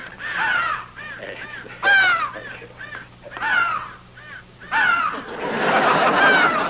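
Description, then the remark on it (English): Several crows caw loudly in quick, overlapping bursts, their harsh calls tumbling over one another with a cackling, laugh-like quality. No one speaks. “He never did tell us which crow took his money.”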